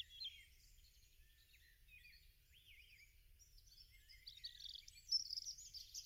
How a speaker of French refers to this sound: Tu entends le gazouillis des oiseaux.